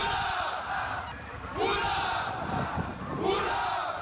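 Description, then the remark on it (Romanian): The crew of the Romanian training ship Mircea shouts three loud hurrahs in unison on the Hamburg waterfront, each cheer a rising, sustained roar separated by brief pauses. “iar echipajul a răspuns cu trei strigăte puternice de ura care au reverberat până departe pe faleza Hamburgului.”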